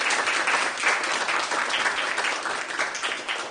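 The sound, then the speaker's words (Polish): A crowd applauds steadily for a few seconds at a celebration of a man's 90th birthday, a dense wash of many hands clapping at once with no voices standing out, holding fairly even loudness before easing slightly at the end. “Brawa dla pana.”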